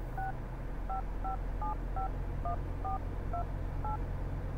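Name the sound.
phone call being dialed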